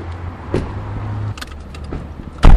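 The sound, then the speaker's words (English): Someone climbs into a prototype Coda all-electric four-door sedan in Santa Monica, California: a low steady hum, a few clicks and light rattles, then a solid door thud near the end. No one speaks. “Hop on in, I'll take you for a drive.”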